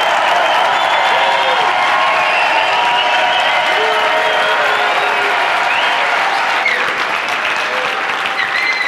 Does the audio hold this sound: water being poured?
no